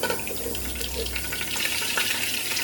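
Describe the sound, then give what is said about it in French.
Mustard seeds crackle in hot oil in a cooking pot, a steady bright sizzle sprinkled with small, irregular pops that grow busier toward the end. No one speaks. “Alors, là, quand on entend que les petites graines crépitent comme ça, je vais rajouter mes oignons.”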